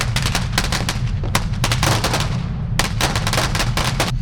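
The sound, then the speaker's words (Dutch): A large boxed fireworks cake, set off by its fuse, goes off in a rapid series of sharp bangs, dozens of loud cracks in quick irregular bursts over a constant low rumble, with a brief lull midway before the barrage resumes. “Tegenwoordig de grote dozen, de pakketten waar het lontje zit en dan vervolgens gaat het los.”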